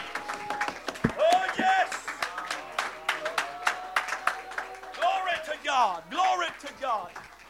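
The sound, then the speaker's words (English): An audience claps their hands in loose, uneven bursts of sharp slaps, while voices call out and hold raised, wavering tones over the clapping. “Clap your hands.”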